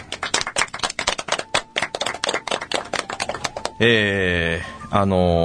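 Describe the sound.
A quick, uneven run of hand claps, sharp and fairly loud, lasting a few seconds before giving way to a sustained, harmonic-rich voice.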